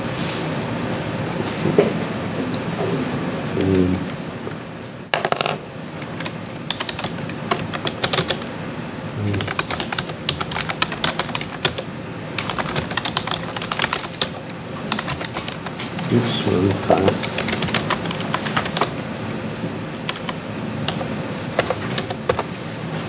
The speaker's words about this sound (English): This keyboard kills me.